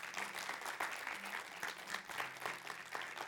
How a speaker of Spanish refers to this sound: Dale, da gracias a Dios. Claro que sí, dale un fuerte aplauso porque es para Él.